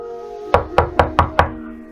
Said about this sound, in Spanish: Con un puño fuertemente cerrado, titubeantemente golpeó la puerta.